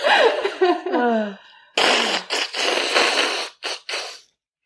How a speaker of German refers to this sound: nimm dir Taschentücher. Ich werde die Nase putzen.